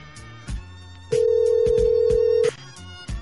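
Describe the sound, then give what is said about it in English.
A telephone rings once with a steady, electronic tone lasting over a second, before an answering machine picks up, set against faint rhythmic thumps and background music, with no one speaking. “Come on, answer machine.”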